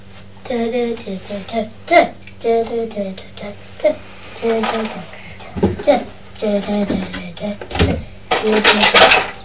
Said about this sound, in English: Flip your lid. Like this. I say flip your lid. There you are. You flip the lid open.